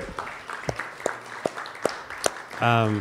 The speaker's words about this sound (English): All right, another round of applause for the open mic participants.